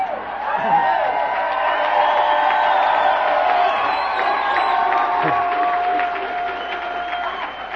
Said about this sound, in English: Last time I heard that much happy yelling was when I joined AA. That was the Oshawa Police Force we were doing the cheering.